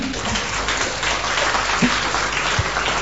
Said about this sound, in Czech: A můžu se vás zeptat, kdo z vás teďko můžete přijít sem a tu prezentaci tady udělat? Zatleskejte jim, perfektní.